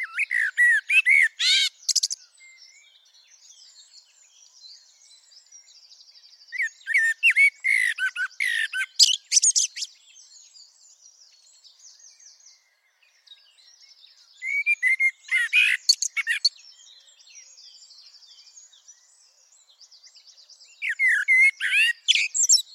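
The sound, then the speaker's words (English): A blackbird sings in a garden, four separate verses with pauses between them, each a run of three to five clear fluty notes ending in a high, scratchy terminal twiddle. The bird sounds close and fairly loud, with no other sounds. “the blackbird is after it's done 3 or 4 or 5 fluty notes, At the end of its verse, it then switches to something quite different, what I call the terminal twiddle at the end of its song verse.”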